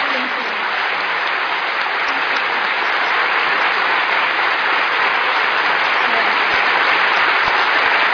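A large crowd at the Sydney Writers' Festival applauds and cheers in a standing ovation for Ayan Hirsi Ali, dense clapping with mixed cheering voices, loud and sustained for the whole stretch without pause.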